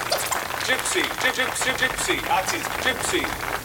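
A crowd applauding 'our Gypsy friends', a dense, steady patter of many hands clapping at once, with voices rising through the applause and no break for the whole stretch.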